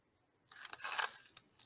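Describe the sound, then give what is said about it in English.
Crunching of a crunchy nacho chip being chewed, a quick run of crisp, crackly bites after a moment of silence, with no talking. “But anyway, while he's munching on that nacho”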